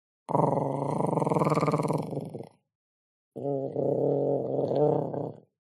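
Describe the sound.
A voice imitates a wet, guttural throat growl in two long, rough, rumbling bursts separated by a brief pause, loud and harsh, with no speech.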